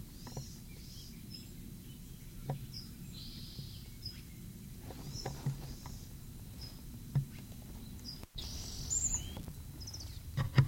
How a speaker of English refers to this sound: March 8, 1965 at chinchilla pen. Bird disturbed by my approach.